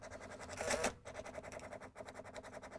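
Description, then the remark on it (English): A receipt printer in a point-of-sale application demo prints a receipt: a brief louder whir, then a steady buzzy, rapidly pulsing chatter as it feeds line after line for a couple of seconds, with no talking. “And it claimed and enabled the printer. And now we can print a recipe.”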